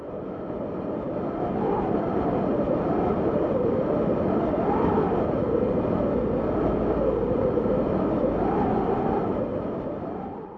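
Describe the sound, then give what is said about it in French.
A cold wind blows steadily for the whole stretch, a dense roaring rush with a hollow, wavering moan that rises and falls in gusts. No one speaks. “Et oui, c'est le vent.”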